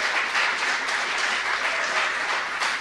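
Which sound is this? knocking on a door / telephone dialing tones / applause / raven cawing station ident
applause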